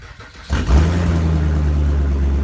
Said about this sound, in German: Von außen ist hinterher ein Schaden oft nicht zu erkennen. Beim Anlassen des Autos hingegen hören auch Laien, dass etwas am Auspuff nicht stimmen kann.